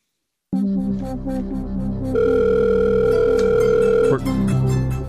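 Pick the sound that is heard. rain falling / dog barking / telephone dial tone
telephone dial tone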